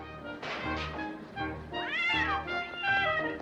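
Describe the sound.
A stage performer in a play imitates a cat, drawing out a string of loud, wavering meows and yowls that rise and fall in pitch, continuous for several seconds with no talking.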